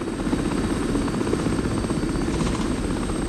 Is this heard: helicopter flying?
yes